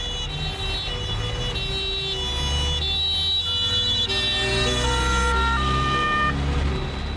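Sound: ambulance siren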